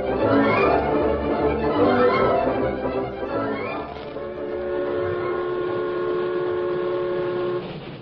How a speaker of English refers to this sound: The train from Colfax, drawn by its snorting, wood-burning engine, rattled past the last spur of the Blue Sage Hills and settled down to the final 30 miles of windswept prairie that lay between it and its destination, River Junction.